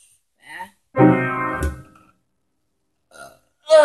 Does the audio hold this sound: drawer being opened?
no